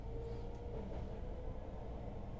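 A steady, continuous low rumble of a train carriage running on rails, with a faint tonal hum and no voices, filling the whole stretch at an even loudness.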